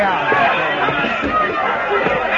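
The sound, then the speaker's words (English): A steady murmur of many overlapping voices in the crowd of the Texas Trail saloon, a dense, indistinct chatter with no single speaker standing out, holding at an even, moderately loud level throughout. “I entered the saloon from the rear and made my way into the crowd.”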